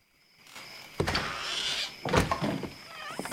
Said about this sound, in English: Barging out of the door, Nolan heads across to the barn where Franny stands like a statue.